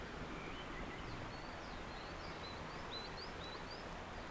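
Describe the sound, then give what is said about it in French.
A steady, soft rush of a mountain stream fills the background, an even hiss with no breaks, while a few faint, high bird chirps flit over it. “Des torrents.”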